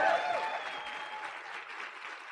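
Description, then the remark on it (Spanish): An audience applauds steadily to welcome a speaker: a dense wash of clapping that holds a fairly even level throughout, with a brief tonal whistle or squeal near the start. “Un fuerte aplauso de verdad, de verdad, de verdad.”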